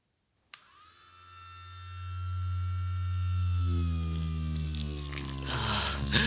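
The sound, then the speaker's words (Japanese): A steady electric toothbrush buzz switches on abruptly and hums continuously to the end, fairly loud, with its pitch sagging slightly and a rougher, noisier edge creeping in near the finish. “ここに電動歯ブラシを当ててあげるからね。”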